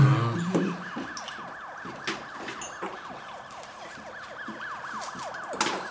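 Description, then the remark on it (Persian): A passing police car's siren wails in rapid, repeating rising-and-falling sweeps, fairly loud and steady for several seconds, with faint traffic noise underneath and no one talking. “صدایش مثل موتور پلیس است.”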